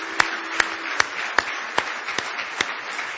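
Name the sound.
audience hand clapping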